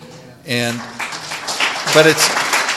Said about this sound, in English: But if you're applauding, you're applauding for AA, because all I did was keep doing the footwork.